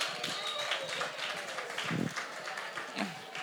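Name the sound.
crowd hand clapping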